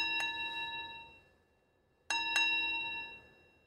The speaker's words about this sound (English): It was a Buddhist pilgrim's bell. But what pilgrim could be passing through the samurai quarter at this hour of the night? Now the bell sounded much nearer.